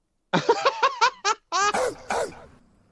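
A gruff barking sound effect: a rapid run of six short barks, then three longer, rougher barks that trail off into a brief fading tail.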